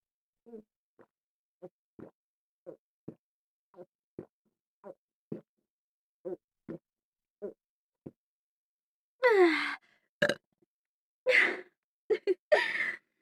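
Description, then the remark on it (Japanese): A run of small, short burps at a steady pace, followed by several louder, longer, breathy bursts right by the listener's ear, very close to the microphone. No talking. “あなたのおちんちんに私のゲップ効いちゃうんですね。”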